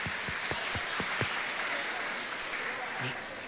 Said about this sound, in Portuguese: Parabéns, né, as ganhadoras. Palmas, minha gente.